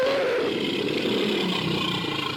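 A tiger's loud, rumbling roar holds steady for a couple of seconds, full, with no talking over it.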